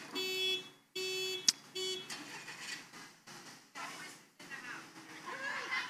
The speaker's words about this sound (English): There always has to be one, doesn't there? For those of you watching live stream, somebody's car alarm is going off.